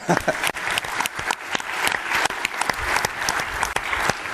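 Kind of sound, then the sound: crowd, audience round of applause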